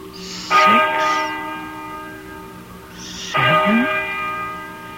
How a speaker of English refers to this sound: Listen to that bell.